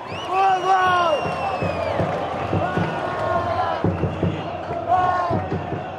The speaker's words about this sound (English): I went to Morumbi Stadium to record a game between Brazil and Bolivia, and the crowd was insane. I would just, you know, move around the stadium and listen for pockets of chanting and cheering or loud fans and listening for the energy.